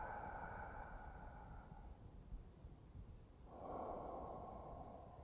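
Slow, deep, relaxed breaths, inhaling and exhaling: a long airy breath, a brief pause, then another drawn-out breath. Soft, steady and unhurried, with no talking.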